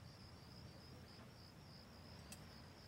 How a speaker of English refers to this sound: Crickets.